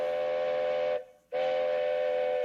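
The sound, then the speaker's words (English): A loud, sustained train whistle sounds in two long blasts separated by a brief gap, its steady harmonic tone bright, with no talking. “And just in time for the train.”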